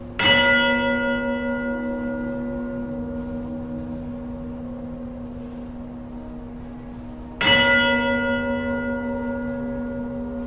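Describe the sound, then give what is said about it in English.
Two loud, deep bell strikes about seven seconds apart, chimed within a large structure, each ringing out with a long, slowly fading hum of overtones. No voices, just the resonant chime filling the space. “Others have applied the same technique and studied the cymatic patterns displayed when bells chimed within the structures.”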